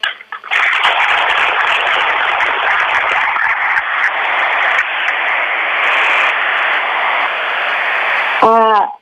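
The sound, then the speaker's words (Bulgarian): Sustained audience applause as a professor and sculptor is introduced, a loud, steady wash of clapping lasting about eight seconds, then fading abruptly as a voice begins to speak at the very end. “Силата на ръкопляскания, аз виждам, че повечето от вас го познават, повечето разбира се от екрана.”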